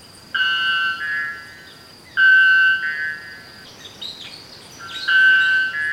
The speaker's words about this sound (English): If you're a female bellbird, you land close to this guy, he faces you and hits you point blank with 125 decibels.